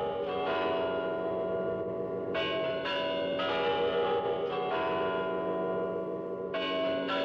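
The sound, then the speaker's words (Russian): A clock strikes twelve with deep, resonant bell tones, each stroke ringing out and overlapping the next in a slow, steady series, with no voices. “И тут часы стали бить 12 раз.”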